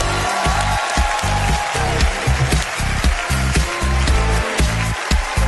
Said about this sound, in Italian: Un applauso a ….